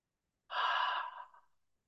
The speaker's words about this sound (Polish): I weź teraz kilka głębokich wdechów i wydechów.